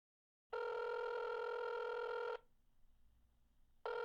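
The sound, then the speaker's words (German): A phone line's ringback tone sounds on an outgoing call, placed at 6:20 a.m. on a Friday in October to reach an RBB journalist: one long, steady electronic ring, a pause of quiet line hiss, then the next ring starting, clear. “ist am Telefon, um Jo Goll in aller Herrgottsfrüh zu erreichen”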